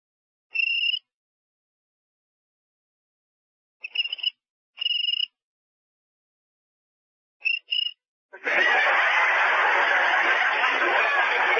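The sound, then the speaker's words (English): A cricket chirps in short, high-pitched trills: one burst, a pair, then two quick chirps, as if answering in rhythm, before a loud, steady rushing hiss takes over. “How do you like that? A cricket with rhythm.”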